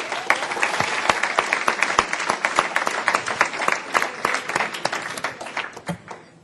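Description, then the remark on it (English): An audience applauds steadily, dense overlapping claps filling the room at a strong, even level before thinning and tapering off near the end, with no voices standing out. “You know, we always have innovations every year, and what we've seen in the education track this year is the innovation of a cheering group.”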